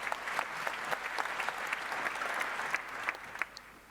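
An audience applauds steadily to welcome young researchers introduced to present a talk on an advanced hack, many hands clapping in a dense, continuous wash with sharper individual claps popping out, sustained for several seconds at moderate loudness.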